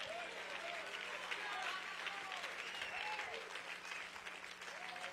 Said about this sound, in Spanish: Ahora necesito que le dé un aplauso al Rey.